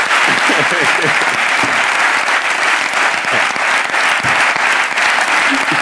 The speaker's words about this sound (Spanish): Perdón, y pedir un aplauso para ella como iniciativa.